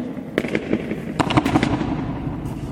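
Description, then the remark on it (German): A burst of sharp, crackling reflections piles up in rapid, irregular succession: the 36-fold echo of three footsteps, heard at the centre of the Marienehrenmal memorial hall, rattling around, then fading into a lingering reverberant wash with no voices. “Also es ist auch so gewollt, dass man hier in der Mitte den 36-fachen Schall hört. Oder das 36-fache Echo.”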